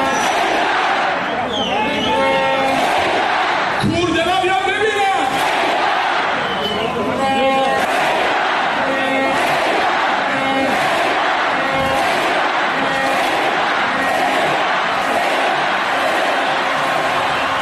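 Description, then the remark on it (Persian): A large crowd of Padideh Mashhad football fans chants in unison with loud, booming collective shouts and claps landing at steady intervals in the Icelandic viking clap, over a continuous roar of stadium noise. “آها، میفرمایند سقوط نمیکنه چون طرفداراش ایسلندی تشویقش میکنن.”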